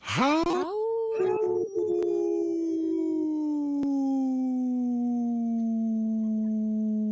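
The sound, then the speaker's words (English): A person imitates a wolf howl: a single loud, sustained note that swoops upward at the start, then holds and slowly slides lower in pitch for about seven seconds, with no talking. “I could take a big big breath and do a howl for a very long time.”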